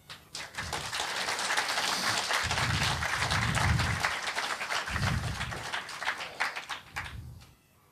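Steady audience applause at a camp for a speaker about to give his talk, a dense wash of claps from many hands holding strong for several seconds before thinning out and fading near the end.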